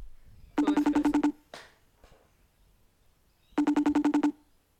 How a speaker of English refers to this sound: Oh, hello guys, I'm getting a phone call. I'll be back. I'll be back, I'm getting a phone call.